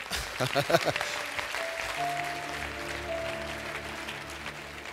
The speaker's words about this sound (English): I think there's a song. You need to clap well there.